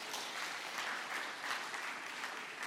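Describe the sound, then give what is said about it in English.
A crowd claps steadily for Jesus for a few seconds, the dense applause holding an even loudness throughout with no voices rising above it. “Clap your hands for Jesus.”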